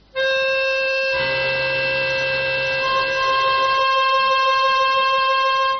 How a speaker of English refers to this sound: So if I play two notes here, which is a seventh, the seventh one is shouting out for the octave. You will hear it.